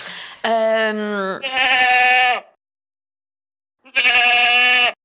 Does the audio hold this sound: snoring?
no